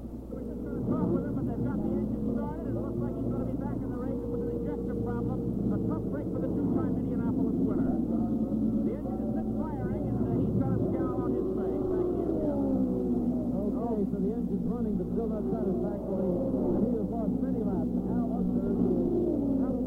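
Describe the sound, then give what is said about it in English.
Race car engines roar continuously for the whole stretch, loud, their pitch sweeping up and down as the cars speed past on the oval at Michigan International Speedway, racing again under the green flag. “The green flag is out again at Michigan International.”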